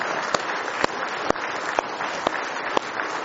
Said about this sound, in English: Give Him one more hand clap of praise if you love Him tonight.